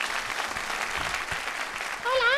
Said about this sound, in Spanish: Y aquí está el oso. Buenas tardes y bienvenido. Un aplauso para el oso Roddy.